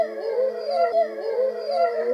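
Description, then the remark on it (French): A wolf howls in a long, wavering tone that rises and dips without a break, fairly loud, with no voices around it. “Le loup lui montra des dents si pointues.”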